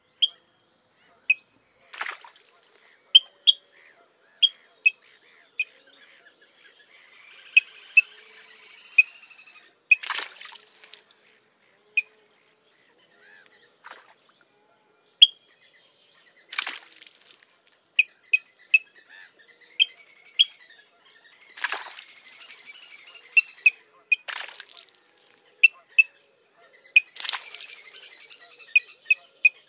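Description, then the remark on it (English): A suddenly alarmed bird gives short, sharp pick calls, repeated irregularly, mixed with occasional louder bursts like brief splashes from its splash dives, against an otherwise quiet background. “When suddenly alarmed, they will utter a short pick, often accompanied by an impressive splash dive, the bird emerging some distance away, perhaps as a distraction display.”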